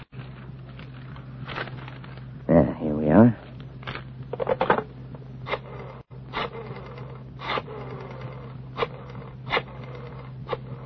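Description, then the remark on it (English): Pages of a telephone book being flipped to find a phone number, a series of quick, papery swishes at irregular intervals over a low steady hum, with a man briefly speaking early on. “The telephone book. Listen, Mr. Avery. The sound of the flipping pages.”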